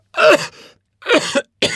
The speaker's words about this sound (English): I have a really bad cough.